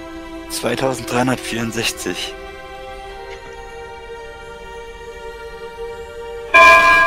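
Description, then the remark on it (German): A ship's bell gong rings loud, its bright metallic tone humming on steadily, with a brief clatter of voices early on and another sharp strike near the end. “Ist aber laut, der Gong, ey.”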